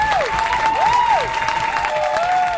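crowd, audience clapping applause

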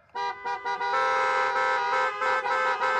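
vehicle, car horns honking

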